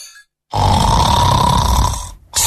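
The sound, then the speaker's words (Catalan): A loud, rasping snore drawn out for well over a second with a buzzing, throaty rattle, then a brief pause before the next snore begins. No one speaks. “No el despertis. Déu està somiant amb el cotxe que vol.”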